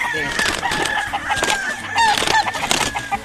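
Roosters, including a breeding rooster, crow in overlapping, strained calls amid a busy chorus of clucking hens, fairly loud throughout a noisy farmyard on a ranch.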